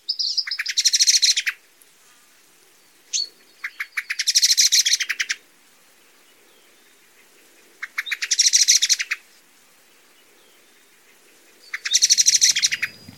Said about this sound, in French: C'est le merle noir, un hôte très commun de nos jardins.